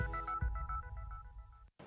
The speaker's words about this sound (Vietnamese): Nếu đang lang thang ở quảng trường thời đại và nghe tiếng chuông điện thoại reo nên tôi bắt máy. Hãy làm theo bản năng của mình.